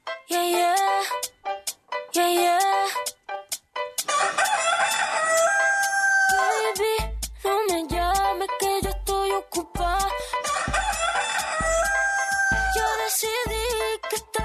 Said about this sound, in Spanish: Así que no se nos olvida, señoras y señores, que es miércoles, y los miércoles, claro que sí, se repite el gallo. Así que 3, 2, 1, son las 6 de la mañana con 13 minutos, échenmelo.